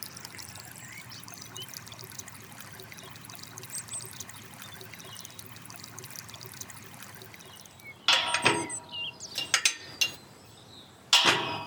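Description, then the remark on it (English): Natural spring water trickles and gurgles steadily out of a hillside by Pope's Walk in Bath, a continuous babble that swells into a few louder splashing gushes near the end. No voices. “So a feature of Bath is that there's lots and lots of natural springs that pop out on the hills, and this is because of the geology of Bath, with all the limestone and the water being trapped and then popping out on the hills.”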